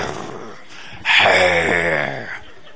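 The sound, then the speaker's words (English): A single loud, drawn-out growl lasting just over a second, rough and throaty, a person's voice imitating a bear, with a quiet pause before it and no talking. “I mean, all the while growling at wedding guests.”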